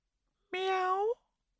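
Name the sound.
cat meowing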